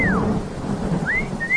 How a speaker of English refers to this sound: Oh. Hey. It's finally raining.